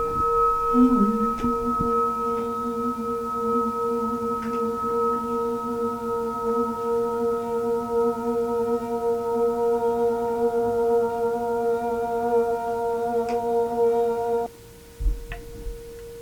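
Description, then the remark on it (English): A temple gong's resonance hangs in the air as a steady, shimmering hum of several layered metallic tones, holding evenly for about fourteen seconds before abruptly dropping away. “So is it that temple gong that's holding that resonance that we're still hearing?”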